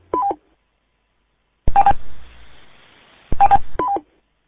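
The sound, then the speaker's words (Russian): Radio roger beeps: quick two-tone electronic chirps, then a burst of static hiss with a beep that fades into soft noise, followed by another static burst and more chirping tones. “хватит пикать Роджером.”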